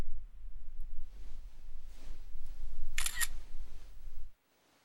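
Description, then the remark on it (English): A phone camera shutter snaps once, a crisp, bright click lasting a fraction of a second over a low, steady background hum. No one speaks. “Go ahead and hand the phone to my good boy and he can snap a shot.”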